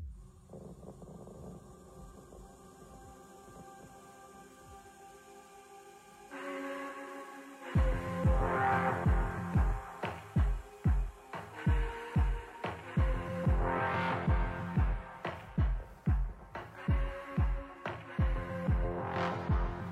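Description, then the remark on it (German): A low humming drone gives way to a deep, booming bass pulse thumping steadily like a heartbeat in a music track, loud and repetitive, with airy textures swelling above it. No one speaks. “Und das hat einen Herzschlagbeat.”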